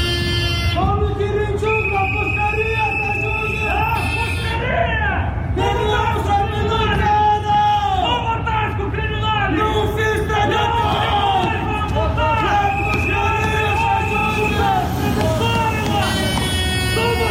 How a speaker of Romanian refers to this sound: Tocmai ați auzit strigătele ce se auzeau în preajma intrării din spate în clădirea Parlamentului, în momentul în care deputații și miniștrii din noua garnitură veneau la ședință, fiind întâmpinați acolo de câteva grupuri răzlețe de protestatari.